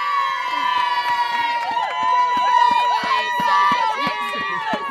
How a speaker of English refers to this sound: They're all cheering the Sioux Rider lot on who are running.